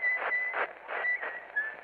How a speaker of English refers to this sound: Who's that coming down the road now whistling?